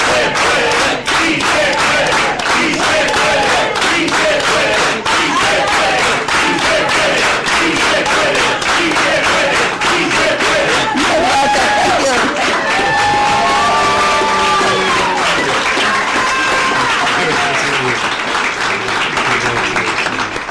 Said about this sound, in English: Okay, let's all do it with an organized hand clap. Let's go. Si se puede. Si se puede. Si se puede.